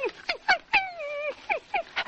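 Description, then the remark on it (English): A man's voice imitates Asta, the wire-haired fox terrier of the radio show The Adventures of the Thin Man, whimpering for attention: a run of short, high, falling whines, then one long drawn-out plaintive whine and more quick whimpers, clear with no other sounds. “Asta begs for attention.”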